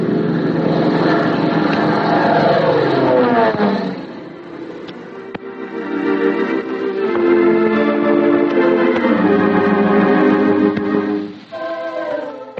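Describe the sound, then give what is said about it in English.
Cora Hartley's small red propeller plane roars steadily as it swerves and dips back and forth over the Howard Garden, dropping packages; its buzzing engine tone slides up and down in pitch as it swoops past, easing off briefly partway through and again near the end. “She came in that beautiful red plane, swerving, dipping, crossing and recrossing the Howard Garden, dropping a package with every turn.”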